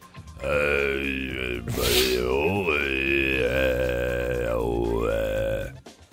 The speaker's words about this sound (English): That's your man singing in Mongolian.